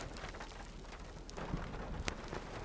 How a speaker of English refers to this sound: Let's listen. Yes, I think there is thunder. Okay, so I've learned that you can't hear the thunder when you're driving, but you sure can hear it when you stop, and that means it is around.